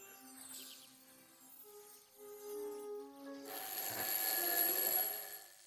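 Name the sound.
alarm clock ringing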